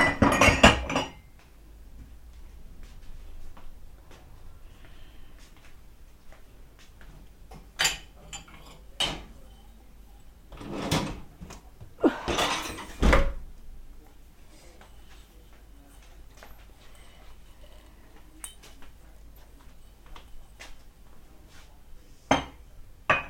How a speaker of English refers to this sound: Let's put some cups in the cupboard. That was a good noise the other day. It's a nice friendly noise, this is. Put a cup in the cupboard. Oops.